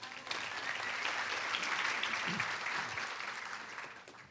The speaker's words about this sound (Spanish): Un aplauso para él.